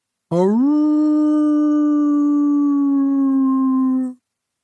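A seal in the water among islands of seaweed sings a single long, mournful howl in reply to people singing to it. The howl swoops upward at the start, then holds a steady, low pitch for about four seconds before cutting off, loud and alone.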